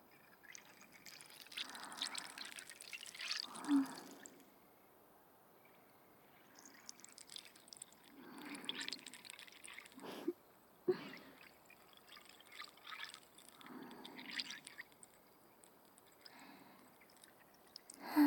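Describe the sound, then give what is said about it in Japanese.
Carbonated bubbles fizz and crackle in a steady, soft hiss, swelling gently every few seconds with a few sharper pops, and no voices over it. “力抜いて、頭の中を炭酸泡で溶かしちゃおうね。”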